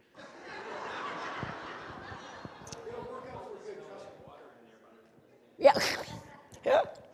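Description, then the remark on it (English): Two sharp sneezes burst out about a second apart, loud and sudden, following a stretch of low, muffled talking. “God bless you.”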